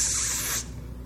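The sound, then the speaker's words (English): A voice imitates the sound of blowing into something to blow it up, such as a balloon: a single breathy hiss that pushes out steadily for about half a second, then cuts off, leaving a faint low hum. “The sound that a person makes when they're trying to blow something up.”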